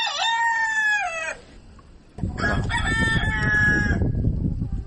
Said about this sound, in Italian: Come potete ascoltare, siamo in mezzo a un'aia.